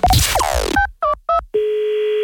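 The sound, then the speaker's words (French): A brief swooshing burst gives way to three quick two-tone telephone dialing beeps, followed by a loud, steady ringing tone that holds to the end, as a hardware store is being called. No one speaks. “On appelle une quincaillerie ce matin.”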